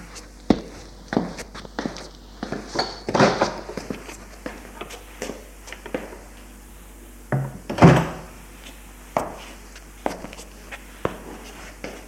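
door opening

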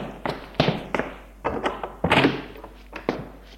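door being opened

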